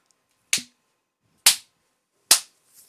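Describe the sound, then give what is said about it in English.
Three sharp, loud spanking slaps land on a woman kneeling on her hands and knees, at an even, unhurried pace, each a crisp smack that dies away quickly, with near silence between them and no talking. “Oh yeah, spank me, baby.”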